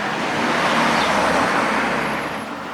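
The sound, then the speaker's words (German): A car drives by on the street at a crossroads, its broad road rumble and tyre hiss swelling loud mid-pass and easing only slightly afterward, with steady traffic noise throughout and no talking. “bleib stehen, ein Auto kommt.”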